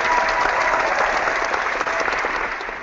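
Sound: enthusiastic crowd applause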